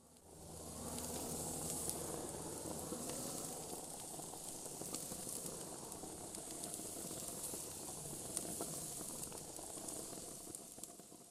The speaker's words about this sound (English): That was me making kebabs.